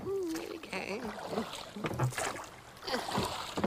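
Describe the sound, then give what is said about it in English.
Oars dip and splash through river water as a tub carrying a church bell is rowed away, in a series of uneven strokes, with a wavering, creaky tonal sound at the start and a steady wash of water underneath. “She put the bell in a tub and began to row away.”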